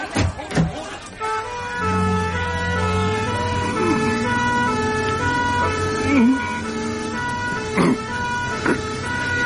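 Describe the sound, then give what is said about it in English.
An ambulance siren holds steady and loud, its tones ringing over a vehicle's rumble, with a few short voices breaking in near the start. “May I come with you in the ambulance?”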